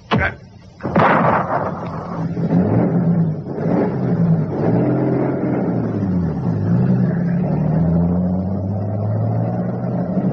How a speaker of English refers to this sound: Come on, start up the car.